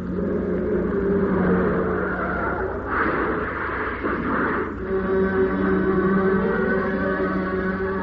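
A car engine drones steadily as the car takes a corner too fast, broken midway by a loud, rough burst of crunching, scraping noise as it strikes the rear of a lorry slewed across the lane with a glancing blow, then the engine hum carries on.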